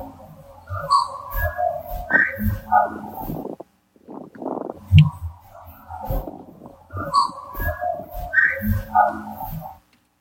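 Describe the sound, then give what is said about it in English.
Whistled tones mingle with hollow, knock-like vocal clicks and thumps and speech, fairly loud. The busy sequence plays twice, split by a short, quieter break of breathy vocal noise. “You have a whistle, you have a knock-ish sounding vocal and speech.”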